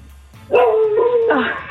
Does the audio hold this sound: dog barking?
yes